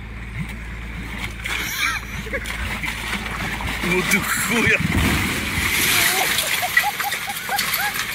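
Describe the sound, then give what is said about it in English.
Water gushes and splashes steadily from a sewer pipe being unblocked by a team in Poland, a continuous rushing wash that swells slightly midway, with indistinct voices talking in the background. “I'm blocking a sewer pipe in Poland.”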